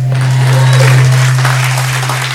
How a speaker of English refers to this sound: Yeah, I think that was about 10 people clapping.